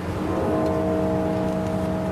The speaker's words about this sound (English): Those bells are from the funeral of former President George H.W. Bush in 2018.